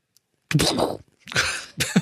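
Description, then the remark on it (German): A voice imitates a heavy metal door that is pulled hard over the last 5 centimetres and bangs shut, with three harsh, breathy bursts, a long rasping one followed by two shorter, clipped ones, loud with no other sounds. “Jetzt kannst du deine Tür geschlossen Geräusch machen.”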